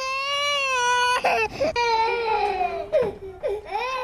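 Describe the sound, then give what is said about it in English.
A baby cries continuously at a military base in long, high wailing bursts with rising and falling pitch, broken by brief gasping breaths between the sobs. “Speaking of babies, if this is what you think the military sounds like...”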